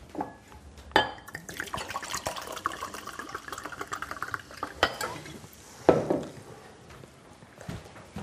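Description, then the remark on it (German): Water is poured from a nearly empty bottle into a glass, a steady gurgling trickle lasting several seconds, punctuated by a few sharp clinks of glass, with no one speaking. “Da war nicht mehr viel in der Flasche.”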